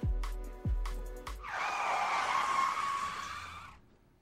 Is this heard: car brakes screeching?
yes